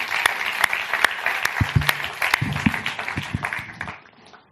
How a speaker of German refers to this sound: Let's thank these guys. Ja, gebt ihr nochmal einen Applaus.